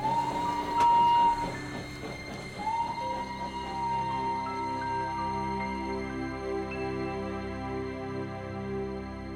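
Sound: train departing with whistle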